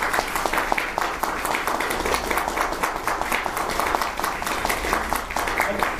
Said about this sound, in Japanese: ここで皆さんにもう一度盛大な拍手をよろしくお願いします。